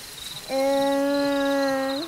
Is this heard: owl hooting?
yes